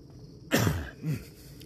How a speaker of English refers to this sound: Trust me when I tell you, as coughs go, that was nothing.